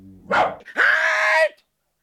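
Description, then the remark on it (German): A large dog in a workshop barks twice: a short gruff bark, then a longer drawn-out one with a ringing, almost howling tone, before the sound cuts off into silence. “Nicht aus der Werkstatt gehen, großer Hund!”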